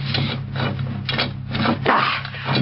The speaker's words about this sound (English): What a shame, Mario, that you can't help me lift this door, even with an iron lever. Too much for one man to open all the way.